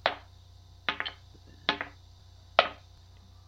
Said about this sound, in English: Like those real dice noises. That was what? That was 5, right? I heard 5 clunks. Okay, so that's 22.